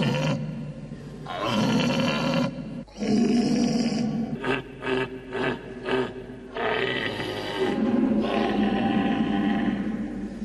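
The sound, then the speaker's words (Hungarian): A hunter blows a horn to imitate a red deer stag's bellow: loud, hoarse, drawn-out roars, broken midway by a quick series of short grunting bursts before another long bellow. “A jó vadász a puskából pálinkát, a kürtből szarvasbőgést csal elő.”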